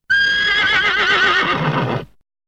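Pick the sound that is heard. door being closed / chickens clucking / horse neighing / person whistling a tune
horse neighing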